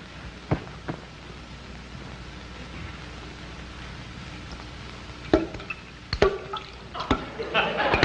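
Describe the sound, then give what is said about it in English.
A faucet dripping in sharp, distinct plinks, a couple early on, then a quicker cluster toward the end, over a steady low hiss with no voices. “Faucet dripping again.”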